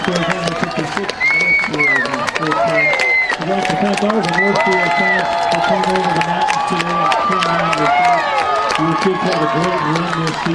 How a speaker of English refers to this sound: Fans cheering it on, saying, let's bring on the Bears next Saturday, next round. Glenwood with a dominant win over the Northfield Nighthawks, 56-13.